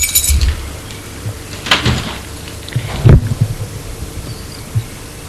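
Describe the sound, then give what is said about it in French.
A house door being opened: a sharp latch click, then a heavier clunk as it swings, with soft low knocks and rustling afterward. No one speaks. “Elle ouvre la porte de la maison.”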